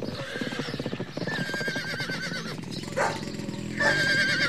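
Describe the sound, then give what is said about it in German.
Several horses fleeing from a forest paddock whinny loudly and repeatedly over the rapid clip-clop of hooves, the neighs rising shrilly as the animals gallop off. “Doch, da hinten die Pferde. Sie flüchten.”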